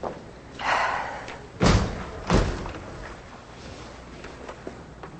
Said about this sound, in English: as the judge shuts two large doors behind her.